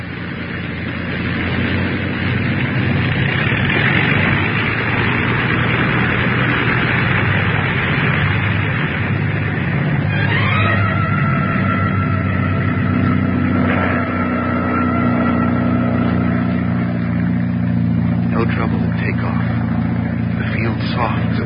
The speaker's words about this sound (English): Give her another listen to her, will you? What do you think? Rev her up again. We'll listen once more. Well, the engine's doing as well as you can expect in this weather.